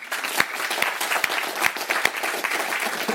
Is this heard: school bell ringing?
no